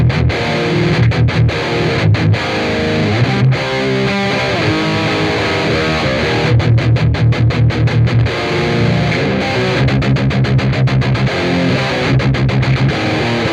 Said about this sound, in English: So it's just loud distortion, basically. Yeah. And it's kind of a 5150, I think like an original PV 5150 kind of an amp in here. Okay. With a noise gate and... a cabin, like a, I guess I have like probably a a Celestion kind of a cabinet speaker